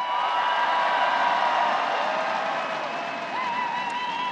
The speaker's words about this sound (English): last night, Romney finally touched down in New Hampshire, where a packed stadium gave him a two-minute screaming standing ovation before they finally allowed him to begin talking.